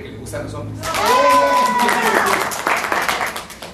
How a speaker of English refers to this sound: And everyone claps loudly when one guy proclaims himself a man who likes men.